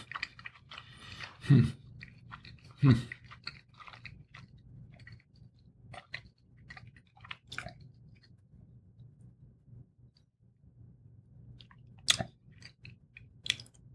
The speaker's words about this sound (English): It's a cold chicken wing now. That was a big bite, too. Mm. Pardon me, folks. It's going to take a minute to chew through this.